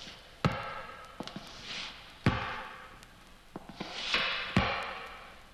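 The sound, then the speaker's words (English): A door opening and heavy, slow footsteps thudding across a hard floor in a hall, three loud evenly spaced footfalls with a few softer knocks between them and a faint whooshing in the background. “But then the average person becomes upset over such simple things as a door opening, footsteps in the hall.”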